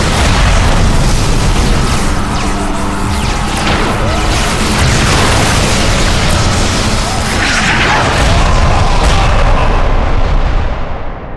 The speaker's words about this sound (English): The day of the massacre, the Kamehameha altered its orbit so that it flew over Heroes Fall. As it made its first pass, the ship opened fire, leveling the entire Mogat district.